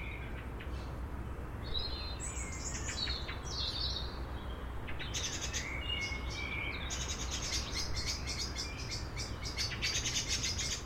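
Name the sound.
birds chirping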